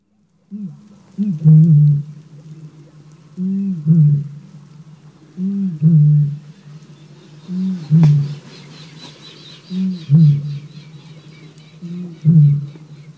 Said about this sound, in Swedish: Rördrom som tutar, inspelad av Jarek Matuszak.